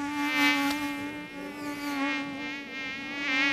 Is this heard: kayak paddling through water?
no